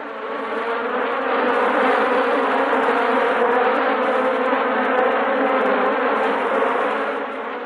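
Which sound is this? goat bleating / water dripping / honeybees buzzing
honeybees buzzing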